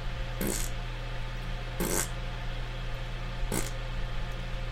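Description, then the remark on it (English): Three short, breathy raspberry bursts, a voice imitating fart noises, come at roughly even intervals over a steady low background hum. “I'm going to make fart noises while he looks for it.”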